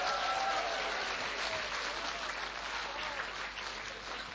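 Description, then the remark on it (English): A crowd claps steadily in sustained audience applause for a pastor on his birthday, dense and fairly loud, holding for several seconds and easing slightly toward the end, with faint voices mixed in. “give him a big round of applause.”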